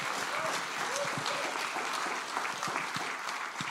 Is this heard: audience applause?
yes